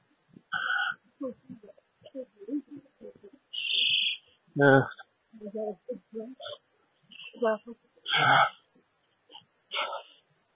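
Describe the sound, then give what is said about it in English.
A grackle gives a series of harsh, squeaky whistles and buzzy calls, mimicking a blackbird's song, fairly loud, spaced irregularly, with faint murmuring voices between calls. “Crackle trying to be the blackbird.”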